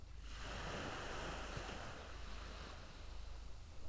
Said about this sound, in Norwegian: Du hører bølgene slår inn mot stranda. Og hver gang du hører det, så merker du at du blir roligere og roligere.